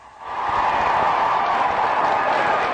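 At a graduation ceremony, a large crowd bursts into sustained applause in a standing ovation for the graduates, the dense clapping swelling within a moment and holding loud and steady throughout, with no one speaking over it.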